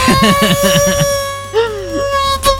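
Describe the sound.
A voice imitates an electric leaf blower with a high, steady whining hum, opening with quick stuttering pulses and later sliding up and down in pitch, somewhat mosquito-like.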